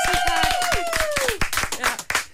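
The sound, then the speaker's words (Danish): A few people clap rapidly and unevenly for a couple of seconds, loud and crisp, while a high tone glides downward over the claps and some voices mix in. “Endnu en gang stor hånd til”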